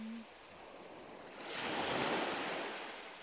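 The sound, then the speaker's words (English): A wave breaks and washes up the shore, a broad rushing surge that swells midway and slowly fades, with steady surf hiss throughout and no voices. “They're running away from the waves.”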